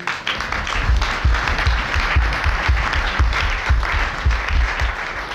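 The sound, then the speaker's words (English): An audience at the Königswinter conference applauds steadily, dense overlapping claps forming a sustained roar that holds at an even loudness throughout, with no voices breaking through. “We would all, I know, particularly want to recognize and applaud the marvelous work done by Dame Lilo Miltzak, who has been a moving spirit of Königswinter throughout all of these years.”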